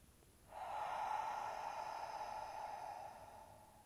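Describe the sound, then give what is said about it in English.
A single long, deep breath drawn down to the belly, lasting about three seconds as a steady airy rush before slowly fading. No talking. “Breathing in, positive initiation, intention, affirmation. And breathing out what's no longer serving you, releasing.”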